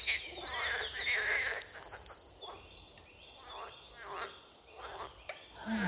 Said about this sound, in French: Petite méditation du matin avec le son des grenouilles, le chant des oiseaux. Je suis assise sur un petit banc de bois à côté d'un étang au bord de la Zergue.